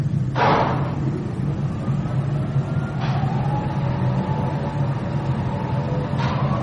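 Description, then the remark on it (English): Hydraulic pumps restarting aboard a submarine: a steady, low mechanical drone fills the space, broken by three short hissing bursts roughly three seconds apart. “Stand by to restart hydraulic pumps.”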